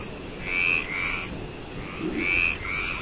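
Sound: frogs croaking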